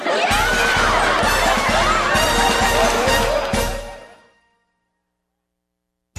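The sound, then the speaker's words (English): A crowd cheers loudly, with whoops and shouts over a steady roar and some heavy thumps, as a campaign manager is voted out, then fades out after about four seconds into silence. “Did you hear them cheer”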